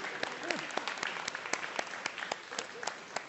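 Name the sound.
audience applauding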